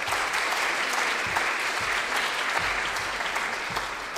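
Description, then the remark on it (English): A crowd claps steadily, a dense, continuous patter of many hands at an even loudness throughout, with no voices rising above it, clapping as an amen for those who volunteered in the outpost over the last 20 years. “Because, yes, it's worth a amen, a clap.”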